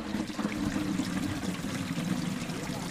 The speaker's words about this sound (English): And here, where you can hear the sound of running water, right there, you might say they're ahead of schedule. In Ruhira, in southwestern Uganda, this sound and the prospect of running water making its way toward a cluster of villages here